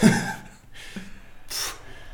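Heavy, breathy exhalations come in a few separate bursts, moderately loud, like someone panting and snorting through effort with short pauses between breaths.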